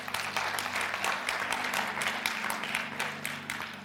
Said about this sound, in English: Think about that. Yeah, you can clap